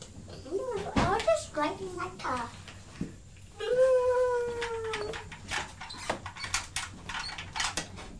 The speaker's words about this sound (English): Squeaky toy again. Sound like a dog with a squeaky toy.